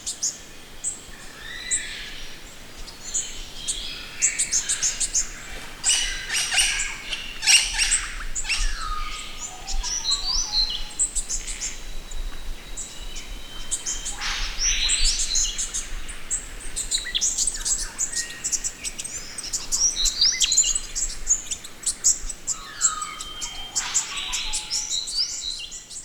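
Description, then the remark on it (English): A dense dawn chorus of more than eight or nine bird species, including gang-gang cockatoos, singing and calling together, with overlapping chirps, whistles and trills, continuous throughout over a soft outdoor background. “So this is a dawn recording, over 8 or 9 species, not 8 or 9 birds, but different species on this recording, including gangangs, which are EPBC listed.”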